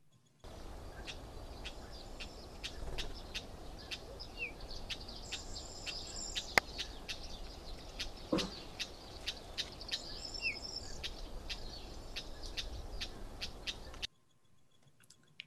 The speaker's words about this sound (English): And the bird is Cyprus Wheat Ear.